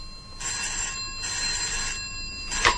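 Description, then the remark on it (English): A telephone rings with an old-style electric bell: two steady, bright trilling bursts separated by short pauses, then a third ring begins near the end. No one speaks. “It's for you, Sir Graham.”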